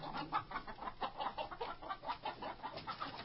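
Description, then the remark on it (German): Chickens cluck in a rapid, uneven stream of short bursts as chicken feed is scattered for them, a small flock chattering steadily throughout at a fairly soft level, with no talking. “Das Hühnerfutter her. Bi, bi, bi, bi, bi, Augustus, Tiberius, Trajan, Hadrian”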